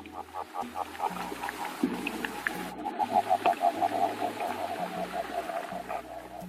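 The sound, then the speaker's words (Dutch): A Titicaca water frog calls underwater: bursts of rapid, mid-pitched pulsing trills repeat steadily over a low, droning hum, with no talking. “Nou, we gaan het nu even laten horen hoe de Titicaca-kikker klinkt onder water.”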